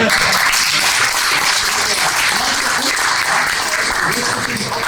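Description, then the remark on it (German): Sustained audience applause, a dense steady wash of many hands clapping at even loudness for about five seconds, with faint voices mixed underneath. “Applaus!”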